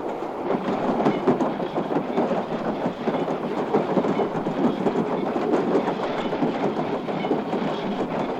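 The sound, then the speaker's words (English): A train clatters steadily along railroad tracks, a dense continuous rumble with rapid clickety-clack rhythm, loud throughout with no voices. “And after a while, the train zigzagged on into the village of Liver and Onions, known as the biggest city in the big, big Rutabaga country.”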